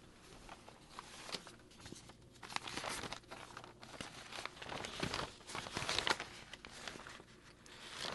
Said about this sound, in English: pardon me while I shuffle through crinkling paper, which is one of my two favorite sounds, the popping of a cork out of a wine bottle being the other.